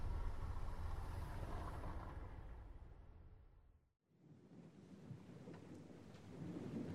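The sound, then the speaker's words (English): Heavy, steady rain pours down at night, heard from inside the Nicolisa, in a dense, loud, rhythmic rush with a deep rumble underneath. It drops away briefly midway, then the downpour returns at full strength. No one speaks. “The sound of the rain is more rhythmic than before.”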